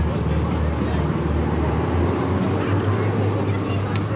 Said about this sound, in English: It's a real melee as we wait for the train to pass.